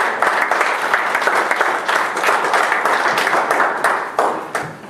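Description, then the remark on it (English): An audience in a church applauds together as they stand, a dense, steady roar of many hands clapping for several seconds, with faint voices mixed in before it begins to thin out. “As you stand, give the Lord a hand of applause in his house.”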